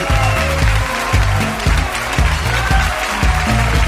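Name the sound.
audience applause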